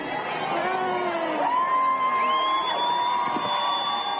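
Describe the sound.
A large crowd, out in hail, snow and rain, cheers loudly and steadily at the first glimpse of the newly married Mr. and Mrs. Murray, with whoops, rising whistles and excited shouts layered over the dense roar of many voices throughout.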